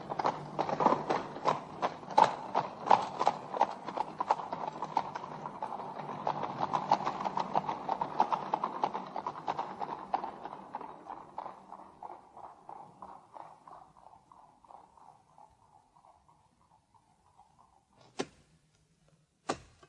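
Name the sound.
horse-drawn carriages driving away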